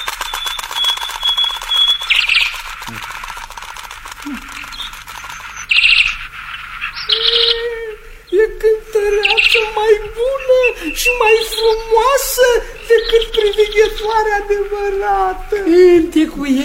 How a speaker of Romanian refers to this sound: S-o auzi, s-o auzi. Să cânte privighetoarea de aur.